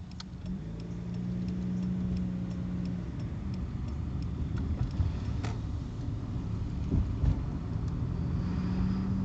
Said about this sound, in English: Okay, sorry about the interruption there. A lot of cars here on this road. Wow.